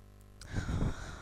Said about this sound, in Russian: И просто хороший такой вдох, собирая весь воздух, который рядышком с вами, даже более того, со всего мира воздух. Вдох получения.